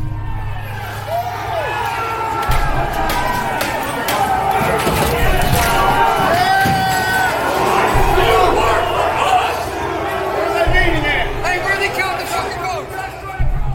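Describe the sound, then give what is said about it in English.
A dense, loud crowd of hundreds of rioters shouts and yells without pause as they breach and pour into the U.S. Capitol building shortly after 2 p.m., smashing windows and forcing open doors, while heavy thuds and bangs break through the commotion for the whole stretch. “Hundreds of people begin pouring into the Capitol building.”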